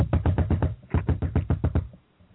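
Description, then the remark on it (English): Two rapid bursts of firm knocking on an airliner's cockpit door in flight, each a quick run of five or six raps, the second burst after a short pause, then quiet. “After a routine departure out of San Juan, Eastern Flight 58 is leveling off at a flight altitude of 370 when a knock at the cockpit door is heard.”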